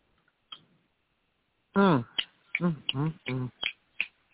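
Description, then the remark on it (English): A few sharp, dry finger snaps ring out, one early on its own and others scattered between bursts of a person's voice humming or vocalizing. “Yeah, that's all I can do too. I'm gonna snap my fingers.”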